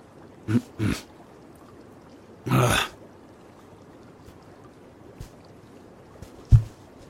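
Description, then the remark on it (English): Water sloshes and splashes in a few short bursts as someone climbs into a hot bath, with quiet pauses and a couple of soft drips or knocks between the movements. “And don't worry, I'm getting in. Just give me a sec.”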